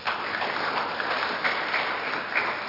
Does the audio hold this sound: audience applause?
yes